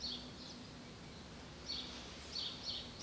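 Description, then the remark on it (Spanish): Birds sing under a cloudy sky in short, high chirping bursts that return every second or so, soft over a faint low background hum, with no voices present. “El cielo está nublado y las aves cantan.”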